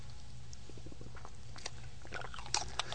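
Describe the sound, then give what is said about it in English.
Someone drinking water: soft, wet mouth sounds and a few quiet swallowing clicks, with sharper gulps near the end, over a steady low hum and no talking. “I'm going to have some water first.”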